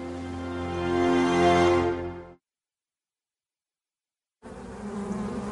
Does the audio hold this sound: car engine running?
no